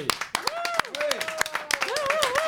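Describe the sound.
An audience applauds as a guest is introduced on stage, with dense, rapid clapping throughout, mixed with loud cheering and whooping voices rising and falling over the claps.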